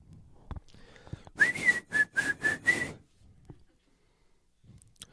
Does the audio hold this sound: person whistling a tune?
yes